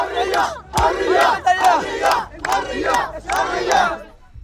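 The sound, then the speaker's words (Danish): A large crowd at a protest demanding an end to the war and the removal of Hamas chants "freedom" in unison, a loud, forceful shout repeated about five times in a steady rhythm with brief gaps between each burst. “Og hele forsamlingen tager over og råber i kor frihed.”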